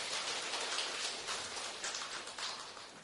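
A crowd claps steadily for about three seconds, a dense, even patter of many hands with no voices over it and no clear rise or fade.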